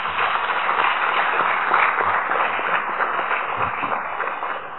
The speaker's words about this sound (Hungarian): Kérek szépen nekik egy nagy tapsot, megérdemlik.